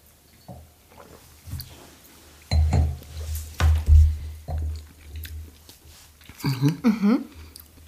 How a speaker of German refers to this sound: Heben wir die Gläser. Cheers. Cheers und Prost.